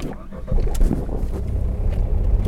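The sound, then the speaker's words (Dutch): A small ordinary car, a kind of Mini, driven by a deputy commander, carries passengers about 10 minutes to an open field, its engine droning with a steady low rumble, the road noise continuous and fairly loud throughout. “De plaatsvervangend commandant bracht de fotograaf en mij ook in een gewoon autootje, een soort mini was dat, bracht ons 10 minuten verder naar een open veld.”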